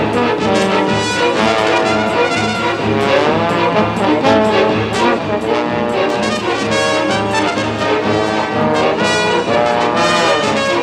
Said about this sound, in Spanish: En la moto, Lucía marcha hierática y seria con el cabello al viento.